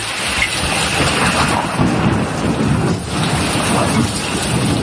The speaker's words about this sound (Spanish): las inundaciones en Baleares, tras el temporal que ha dejado lluvia, viento y oleaje. La peor parte hasta ahora se la está llevando Menorca, con precipitaciones que están batiendo un récord, ¿eh? Nunca había llovido tanto en un mes de agosto.